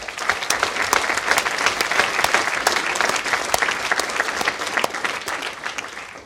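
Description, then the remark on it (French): Sustained audience applause for Richard Stallman before his talk on a digital society, a dense wash of many hands clapping at a steady loudness for several seconds, with no voices over it. “Merci de l'applaudir, le docteur Richard Stallman.”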